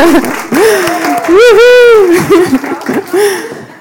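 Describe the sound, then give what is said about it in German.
An audience claps for four volunteers coming up on stage while a voice rises over it with drawn-out, sliding cheers; the clapping forms a steady, dense patter underneath that fades out near the end. “Jawohl, ein Applaus für die Freiwilligen.”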